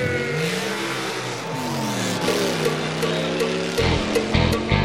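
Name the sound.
car engines revving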